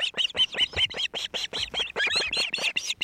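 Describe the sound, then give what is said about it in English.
Osprey calls at the nest as the bird delivers a fresh catch of fish to its mate and chicks: a fast, steady series of high, whistled chirps, roughly five or six per second, loud, continuing without pause with no talking. “And this bird is delivering a fresh catch to his mate and chicks.”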